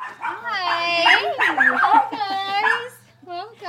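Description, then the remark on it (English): A small, fluffy dog barks and yips excitedly in greeting at a family's two-story house in Wilmington, Delaware, its high, whiny calls rising and falling in a few long bursts over about three seconds, with a short yelp at the end. “I'm greeted by a small, fluffy dog and the kids.”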